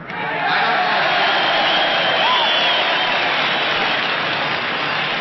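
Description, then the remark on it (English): A huge festival crowd of some 500,000 young people cheers and applauds as Farmer Yasker stands on center stage and salutes them, a dense, steady roar that swells in quickly and holds loud throughout, with a few faint whistles or whoops rising above the din. “At the end, Farmer Yasker stood on center stage and saluted the multitude.”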